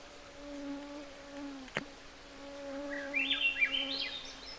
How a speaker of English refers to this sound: That sort of flute-like song, actually it's very, very pretty, is a Swainson's thrush. And there are a couple of other, flute singing type of thrush that we find up here. But the Swainson's kind of, it's recognizable because it winds up the scale.